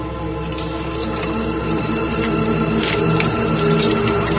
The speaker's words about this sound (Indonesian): Aku lanjut mencuci piring-piring yang tinggal beberapa lagi itu.